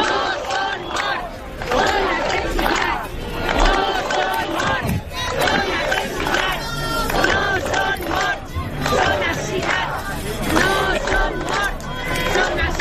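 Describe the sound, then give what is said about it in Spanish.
A large protest crowd against Mazón shouts slogans in unison, including that the 228 dead are not deaths but murders, many voices rising and falling in rhythmic chanted bursts, loud and sustained throughout with a dense roar of voices underneath. “Por eso gritan que los 228 fallecidos no son muertos, son asesinatos.”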